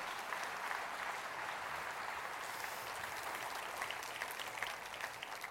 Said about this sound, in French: mais pouvez-vous individuellement, pour vos propres vies, vous arrêter un moment ce matin et applaudir et dire, Seigneur, pour ce que tu as fait dans ma vie, je lève la bannière et je te dis merci ce matin.